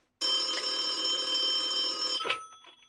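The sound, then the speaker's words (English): An old-style telephone bell rings loudly in one continuous burst of about two seconds, then cuts off abruptly with a short clatter and faint trailing noise. “Yes, and if you can hold a bottle, you can dial a phone. Give her a call.”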